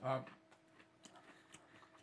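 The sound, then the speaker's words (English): Quiet crunching from someone eating a dry cracker for breakfast: a few soft, crisp crackles spaced apart, after a brief burst of voice at the start. “By the way, I'm eating a cracker.”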